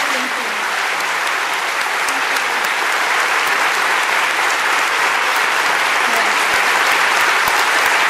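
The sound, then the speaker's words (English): A large crowd at the Sydney Writers' Festival claps steadily and loudly in a standing ovation for Hirsi Ali, a dense wash of hands with scattered sharper claps and faint cheers, sustained without pause for the whole stretch. “The crowd at the Sydney Writers' Festival cheered and gave her a standing ovation.”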